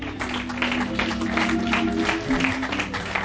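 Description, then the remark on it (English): An audience at a night church service applauds in honor of the Lord, steady dense overlapping clapping for a few seconds at an even loudness, with a low sustained musical tone humming underneath. “Let's go, Lord, in honor of applause tonight. Let's give the Lord a hand.”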